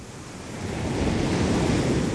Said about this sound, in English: My really, really favourite sound is the sound of waves. I just love the sound of waves crashing on the beach because it just reminds me of being on holiday, being at the seaside, relaxing.